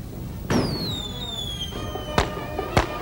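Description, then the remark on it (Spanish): Firecrackers are set off outdoors by people at a street parade where people dance: a burst sets off a long descending whistle, followed by two sharp, loud cracks spaced apart against a steady background rumble. “Algunos llevan en sus cabezas luces de neón, otros lanzan petardos.”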